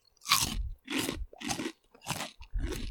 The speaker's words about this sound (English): It's not too peppery. It's not too salty. No. It's nice. It's nice. It's just nice, good, proper, crunchy pork crackling.